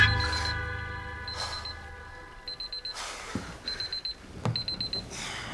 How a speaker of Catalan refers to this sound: Apaga el despertador del mòbil, que marca les 7:30